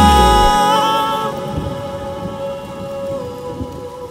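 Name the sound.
rain falling with thunder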